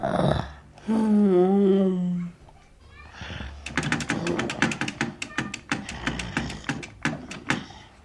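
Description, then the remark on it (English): A wavering vocal moan, then a run of sharp, irregular electric typewriter key taps, fairly loud, some quick clusters and some spaced out, over a low background hum; a person types with a stick strapped to his forehead, his head supported over the keys. “To help him communicate, they tried him on an electric typewriter.”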